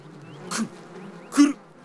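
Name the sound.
bees buzzing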